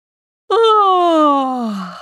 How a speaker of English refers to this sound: With a big yawn, I woke up.